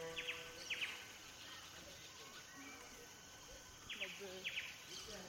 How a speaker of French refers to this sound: Un vrai havre de paix avec une végétation tropicale foisonnante, une bulle verte en plein centre-ville, où les bruits des oiseaux de la jungle remplacent le concert de klaxons des rickshaws.